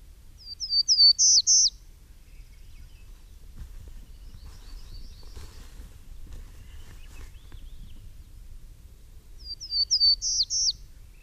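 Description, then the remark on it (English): A Townsend's Warbler sings two short, high phrases of buzzy, rising notes that quicken toward the end, separated by a long gap filled with faint chirps over a low, steady rumble. “I think it's a Townsend's Warbler. Townsend's Warbler is correct, and that is this month's Bird of the Month, brought to you by Kachemak Bay Birders.”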